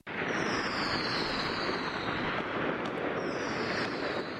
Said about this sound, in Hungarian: A kínaiak akár csak mi szilveszterkor tüzi játékkal és hangos ünnepléssel mulatnak.